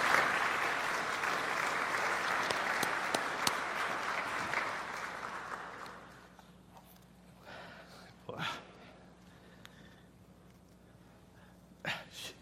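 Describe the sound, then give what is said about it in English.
An audience applauds with dense, steady clapping for about six seconds before it fades out, leaving near-quiet with a couple of brief sniffs or snorts afterward. “Let's indicate with an applause.”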